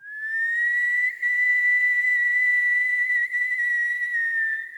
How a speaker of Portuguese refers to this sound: Quando um assobio aterrorizante ecoou por todo o povoado.